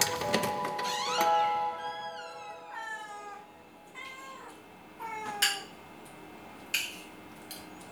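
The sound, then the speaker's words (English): Nine or ten cats in a small apartment meow repeatedly and overlap one another, their cries rising and falling, with a few sharp clinks mixed in and no one talking. “There was 9 or 10 cats in that small apartment.”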